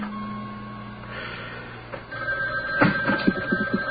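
A telephone bell rings, a steady tone giving way to a rapid burst of clattering rings near the end, moderately loud with no voices.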